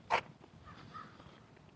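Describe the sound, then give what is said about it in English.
A crow gives one sharp, harsh caw, followed moments later by a fainter call from another crow, against quiet outdoor background noise on a hot, sunny day with cumulus clouds, with no talking. “Crows are having a fun time today.”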